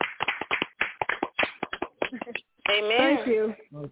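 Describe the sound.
Hands clapping in a lively run of sharp, close claps for a couple of seconds, followed by a loud voice calling out while a few claps continue underneath.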